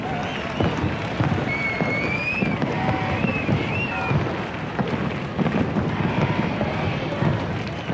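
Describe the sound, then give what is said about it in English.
Fireworks crackle and pop continuously overhead amid a noisy outdoor crowd as Pope Benedict leaves a meeting with families in Valencia, Spain, with a few high whistling tones rising above the steady, dense roar. “And as Pope Benedict left, fireworks exploded overhead.”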